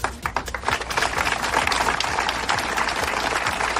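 Sustained applause from hundreds of neighbours in Oya, Pontevedra, Spain, breaking a minute of silence in memory of a murdered woman: a dense wash of many hands clapping at once, steady and fairly loud throughout, with no voices standing out.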